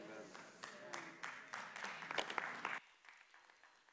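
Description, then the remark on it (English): A church audience applauds together during a sermon, a dense patter of many hands clapping at steady volume for about three seconds before it cuts off abruptly into near silence. “If you would all clap right there, give me a perfect place to take a sip of water.”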